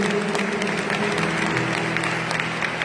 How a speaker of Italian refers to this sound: Alleluia. Un applauso al Signore. Grazie al Signore Gesù.